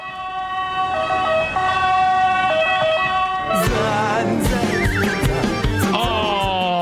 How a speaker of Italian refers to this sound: Arriva l'ambulanza!